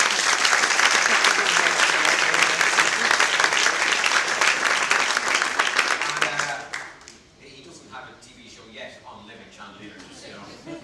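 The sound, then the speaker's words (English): An audience applauds loudly to bring a performer back on stage, with dense, steady clapping for about seven seconds, then it quickly dies away to scattered claps and a quieter murmur. “So if you give another round of applause, he comes back.”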